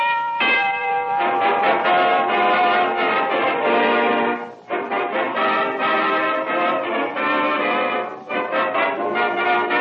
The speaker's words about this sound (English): And that's the answer. That's why Pall Mall rings the bell.